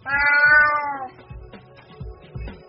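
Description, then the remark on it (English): A cat lets out one long, loud, drawn-out meow lasting about a second, followed by quieter low rustling and thumping sounds. “Get out of here, you cheeky cat.”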